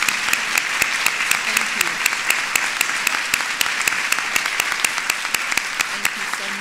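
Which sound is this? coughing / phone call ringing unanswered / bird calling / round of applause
round of applause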